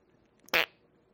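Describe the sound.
A single short, loud fart noise made with the mouth, a sputtering burst lasting about a tenth of a second that stands out sharply against near silence.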